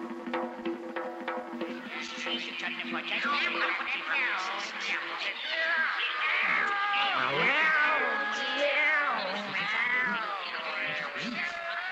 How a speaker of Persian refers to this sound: آقایان گربه ها ساکت باشند، سر و صدا نکنند و با نظر خوردن به این موش نگاه نکنند